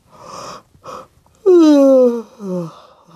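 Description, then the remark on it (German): A loud, drawn-out yawn from a tired woman in a story: a couple of breathy intakes, then a long voiced groan sliding downward in pitch and trailing off into a softer, sighing finish. No words are spoken. “Frau Usebuse gähnt wieder, denn sie ist müde, sehr müde.”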